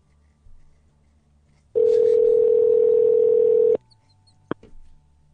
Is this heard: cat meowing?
no